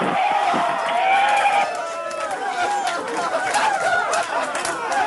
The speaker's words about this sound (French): Les larmes et les cris de joie dans la salle de contrôle de la NASA à Pasadena en Californie pour cet atterrissage sur Mars, donc le 5 août 2012.